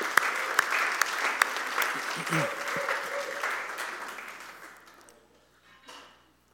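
A crowd claps for two people in dense, steady applause lasting several seconds, with a few sharper individual claps standing out, then it fades away into near silence.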